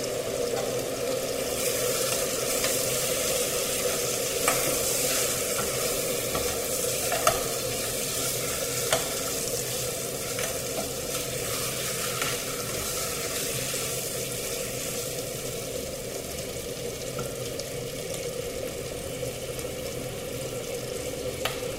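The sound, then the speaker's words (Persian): Lamb and onions sizzle steadily in a hot pan over raised heat for the whole stretch, with a utensil scraping and stirring at irregular intervals as they are constantly sautéed so the onions do not burn. No one speaks. “چونو دیگه من حرارت رو زیاد میکنم، ولی حواسمون هست که پیازمون نسوزه. یعنی ما مدام تفت میگه گوشت.”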